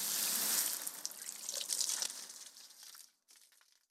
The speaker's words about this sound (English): first I have to finish watering the grass because, according to the internet, if you don't water it for 15 minutes, your grass will die and your life will be ruined and everything will be horrible.